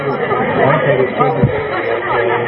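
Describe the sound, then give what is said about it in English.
Dense crowd chatter at a protest where people carry signs demanding that the President show his taxes. Many overlapping voices form a steady, loud babble with no single speaker standing out, plus a brief low thump partway through. “sort of slipping through the crowd here.”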